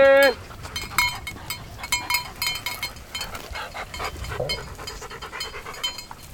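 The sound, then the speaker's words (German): A flock or herd of sheep bleating, with many overlapping calls, plus light clinking like bells amid a busy outdoor bustle. “Also erstmal habe ich die Lockrufe für die Schafe, für die Herde.”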